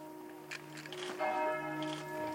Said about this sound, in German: Die Glocken läuteten in der ganzen Stadt, genau in dem Moment, in dem vor einem Jahr die Germanwings-Maschine in den Alpen zerschellte.